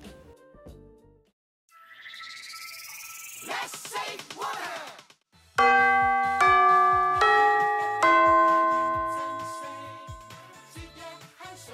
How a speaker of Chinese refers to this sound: 放学的铃声响起了，同学都陆续走出班房。